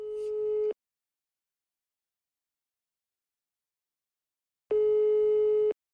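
A telephone ringback tone sounds twice while a call is placed: two steady, harmonic beeps about a second long, separated by a long silent gap, clear with no voices.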